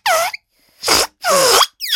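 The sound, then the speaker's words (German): Air squeals out of the neck of a freshly blown-up balloon, being tried as a sound source for building an organ, in four loud, harsh bursts, each a buzzy, wavering high whine with brief silences between, the pitch sliding as the opening is stretched. “Und ich habe hier zum Beispiel einen Luftballon, in den puste ich mal rein.”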